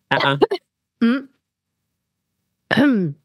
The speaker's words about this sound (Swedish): Jag måste hosta lite.